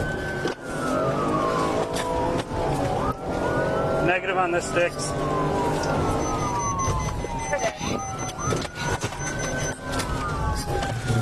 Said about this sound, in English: Dash cam captures a driver fleeing Wisconsin traffic stop, ramming police cars during a high speed chase.